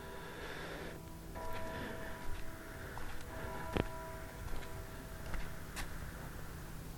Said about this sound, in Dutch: Dames en heren. De klok slaat 7 uur.